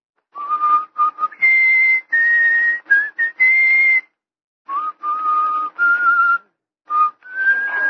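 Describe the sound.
A man whistles the folk tune Coming Through the Rye, the trademark of the character Whistling Sam, clear, with sustained notes stepping up and down in short phrases separated by brief pauses for breath. No one speaks.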